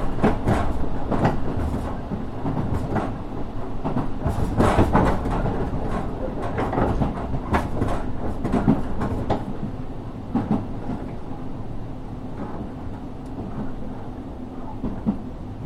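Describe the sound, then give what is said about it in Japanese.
A local one-man train bound for Ōbu rolls steadily along the rails, a constant rumble broken by repeated sharp clacks and rattles as the wheels pass over track joints, with no one speaking. “この列車は普通列車の大府行きワンマン列車です。”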